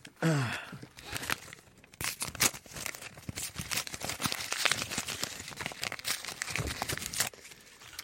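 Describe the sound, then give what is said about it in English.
Dense paper sounds: a run of sharp tearing and crinkling bursts lasting several seconds as an envelope is ripped open and handled, with a brief breathy sound at the start. “It's ripped the no, envelope.”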